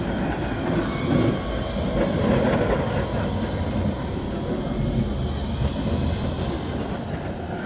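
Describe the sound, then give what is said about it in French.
A tram rumbles past, a loud, steady roar of wheels on rails with faint rhythmic clacking that stays strong throughout before easing slightly at the end. “Attention, il ne faut surtout pas se faire écraser par un tramway, ce serait dommage.”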